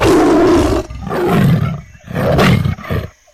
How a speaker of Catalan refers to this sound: Rugia i rugia i es mostrava molt rabiós i cada vegada s'anava acostant més al marge del pou.